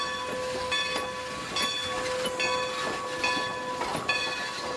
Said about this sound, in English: for an old steam engine that you don't see anymore